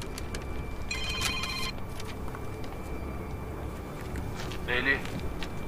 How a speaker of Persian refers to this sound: این تلفن منو جواب میدی؟ بزنی رو بلنگو.